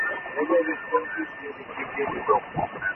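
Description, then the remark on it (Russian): A faint, narrowband radio transmission with a garbled voice half-buried in a steady hiss of static, plus a thin continuous whine running through it for the whole stretch. “Ага, окей, потому что я его на уровне вот помехи у себя слышу.”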